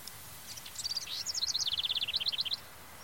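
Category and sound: bird, birds singing outdoors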